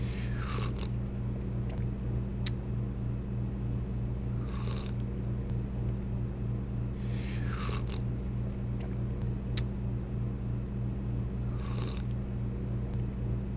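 A baby eating and chewing food: short, wet smacking bursts come every two to three seconds, some with a faint squeaky edge, over a steady low background hum, with no talking.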